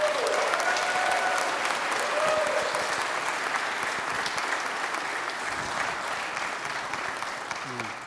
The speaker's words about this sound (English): Well, you're applauding now.